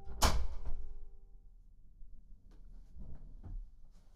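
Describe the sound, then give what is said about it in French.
A door shuts with a single solid thud near the start, its resonance ringing briefly before fading. A few faint knocks or footsteps follow. “Je vais fermer la porte, on sera plus au calme.”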